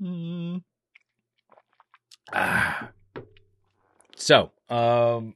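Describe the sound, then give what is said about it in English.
A brief slurping sip of a drink, taken to hydrate, then a few small mouth clicks and a quick gulp, framed by short hummed voice sounds before and after. “I need to hydrate, and I'm going to take another sip here real quick.”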